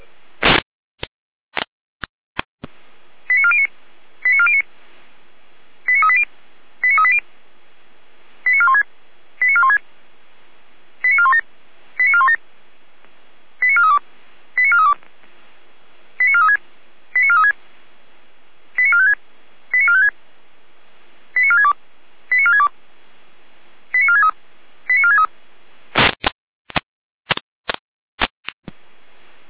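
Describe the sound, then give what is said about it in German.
A fire brigade radio alerting sequence sent by the control centre in Gera: short electronic tones in quick pairs repeat at a steady rhythm for about twenty seconds, framed by sharp radio clicks at the start and end, with no talking. “Leitsche der Gera mit Alarmierung.”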